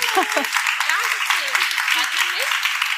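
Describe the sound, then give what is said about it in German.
An audience applauds author and podcaster Nathalie Stüben as she is introduced, in a dense, steady wash of clapping that holds at an even loudness throughout, with faint cheers and voices mixed in beneath. “Ein Applaus für Nathalie Stüben, bitte.”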